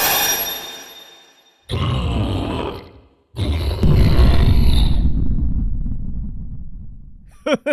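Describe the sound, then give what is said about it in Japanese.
Deep, rough growls and grunts from a bear come in three loud bursts, the last one long and rumbling, followed by a couple of short higher yelps at the end. “こんなところにクマがおるとはの。”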